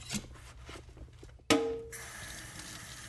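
Dishes being washed at a sink: soft clinks and rubbing, then a sharp ringing clank of crockery followed by a steady hiss of running tap water. No one speaks.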